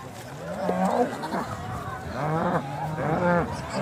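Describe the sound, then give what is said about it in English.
Several cows moo in overlapping, drawn-out calls, loud, one after another over a faint background murmur of outdoor noise, as a herd is released to pasture in the UK after a winter indoors while a crowd watches. “A crowd watches as a herd of cows are released to pasture after a winter cooped up indoors.”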